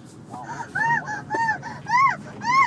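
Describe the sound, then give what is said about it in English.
A child in the back seat of a car hoots over and over in a goose-like, honking voice, about six arched, rising-then-falling calls in quick succession over a steady low rumble. “How come you're hooting?”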